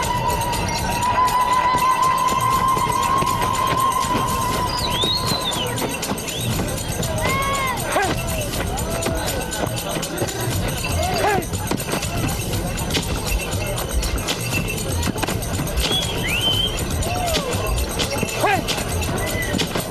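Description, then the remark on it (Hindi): Hooves of a fine-bred horse clatter steadily through a busy, noisy scene, with running footsteps and a crowd murmuring around them; a few high-pitched calls cut through now and then. “ये आला नस्ल का घोड़ा तुम्हें और अनाई को हदिया करता हूँ।”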